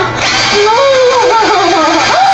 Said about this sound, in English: Do you hear that sound? Have you ever used a drill and you've gone too far, or it simply won't drill anymore? That's the sound I'm hearing.